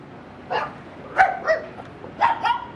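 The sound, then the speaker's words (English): A dog barks about five times in two quick pairs plus one, short sharp yaps at moderate volume over a faint background hum, with no one talking. “lives under a kind of pedestrian breezeway next to the Save-A-Lot with her two dogs and her husband.”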